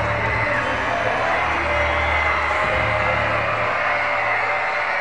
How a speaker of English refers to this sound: Well, you can hear the crowd.